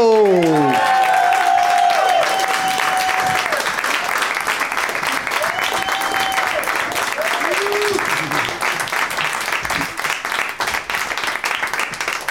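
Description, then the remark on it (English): A crowd breaks into steady, loud applause that continues for the whole stretch, with a few whoops and cheers rising over the clapping near the start, welcoming three guests onto a show. “Let's say hello to them individually and give them a little nice individual round of applause, starting with a first-time guest on the show to my left.”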